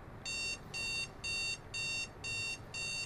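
An alarm clock beeps in a steady repeating pattern, six even high-pitched pulses with short gaps between them, clear over a low background hum, with no one speaking.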